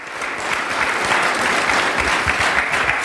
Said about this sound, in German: Ich bedanke mich für diesen herzlichen Applaus und für diese Begrüßung. Und der soll noch herzlicher werden, womöglich im Lauf der Sendung.